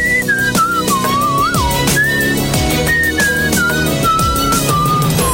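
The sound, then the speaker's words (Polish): Someone whistles a lilting tune, the melody sliding between notes in short phrases, accompanied by steady instrumental music with a regular beat underneath. “Mógłbym właściwie po prostu powiedzieć, że słońce jest i będzie w całym kraju i dalej sobie po prostu pogwizdać.”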